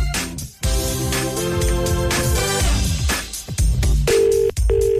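A burst of telephone keypad tones as digits are punched in gives way to a steady ringing tone, sounding twice in short even pulses. The sounds are loud, with no one talking.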